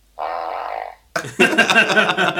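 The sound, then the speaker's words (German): A loud, buzzy fart sound effect from a soundboard machine rings out for about a second, then after a brief gap a second, rougher and noisier burst follows, sounding electronically played. “Wie viele Pupse hört ihr? Es kommt aber alles nur aus dieser Maschine natürlich.”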